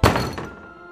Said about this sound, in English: Through the peephole, I could see two strange trick-or-treaters standing outside the door, motionless. It began pounding on the door and telling me to let them in.